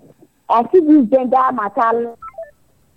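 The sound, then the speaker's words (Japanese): A muffled, phone-line voice speaks briefly as a telephone call is being placed, then a quick series of short electronic tones follows, like a telephone number being dialed. The tones are fairly clear. “電話してるとこです。”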